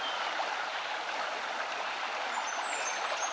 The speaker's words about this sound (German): Lausche den Klang des Wassers.